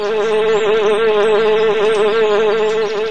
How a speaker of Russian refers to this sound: Это еще кто? Первое насекомое, медоносная пчела.